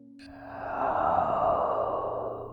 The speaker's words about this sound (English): It groaned again, this time softer. The cracking sound returned. The heavy breathing was still audible as the figure drew back its hand from the glass, and I heard its dragging footsteps getting further and further away.